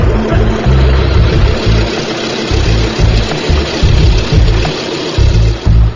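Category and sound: vehicle, airplane engine running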